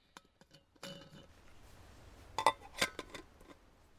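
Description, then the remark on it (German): Cups and saucers clink as tea is served with chocolate cookies on a riverbank in the Northwest: a cluster of light, bright ceramic taps early on, a rustling scrape, then a few sharper clinks near the end, with no voices. “Was kann es Schöneres geben als einen Tee am Flussufer hier im Nordwesten?”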